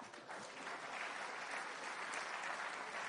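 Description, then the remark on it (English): A crowd applauds steadily, a dense wash of many hands clapping at an even, fairly loud level that holds without break for about three seconds. “Clap.”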